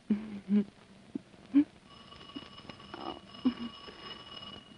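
doorbell ringing

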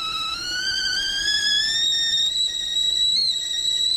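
whistling tea kettle

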